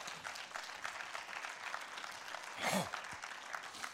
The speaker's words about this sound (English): So can we applaud the work of the Lord already today?